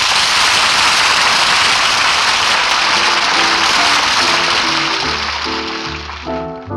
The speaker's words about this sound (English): Say, fellas, let's kick up a light spring shower, shall we?